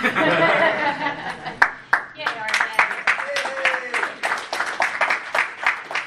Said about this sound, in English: You don't have to clap, it's okay.